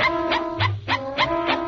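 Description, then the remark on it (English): A farmer's dog barks about five times in a steady, even rhythm, the short yaps sitting over a sustained, hum-like musical tone that runs underneath the whole time. “Well, there's Farmer Brown's dog.”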